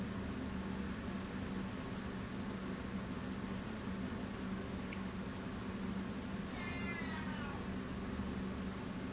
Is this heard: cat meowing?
yes